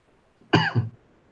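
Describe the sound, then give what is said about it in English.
A single sharp cough bursts out of near silence, followed by a brief rougher catch in the throat, then quiet again. “Sorry, I got coughing.”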